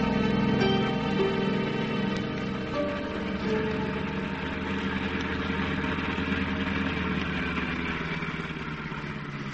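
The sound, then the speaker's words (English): A car engine idles, a steady low rumble with a faint rhythmic throb that eases slightly toward the end as the car comes to a stop. No one speaks. “Why are you stopping the car?”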